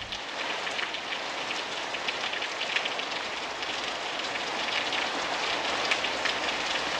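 Steady rain pours down in a continuous, even hiss, with faint crackling drops spattering on a surface throughout. No voices, just the dense, unbroken patter at a constant loudness.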